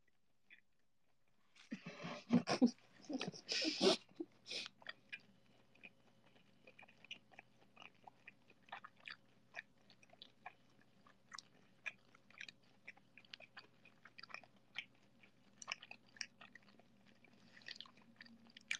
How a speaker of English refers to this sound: Okay, I stopped chewing. She's still going.